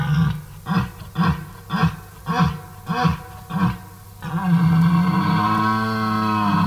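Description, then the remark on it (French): A red deer stag bellows in the rut: six loud, rhythmic guttural grunts, then one long, sustained, deep roar that holds steady to the end. “Il n'y a pas de cri autre que, à l'époque du brame, le brame et puis ses aboiements.”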